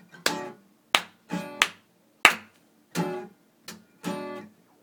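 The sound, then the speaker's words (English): Hands clap about eight times in a loose, uneven rhythm, each clap a sharp, fairly loud smack with a short ringing tail. Short silent gaps separate the claps, and no one speaks. “We're gonna show you rhythm. Clapping our hands.”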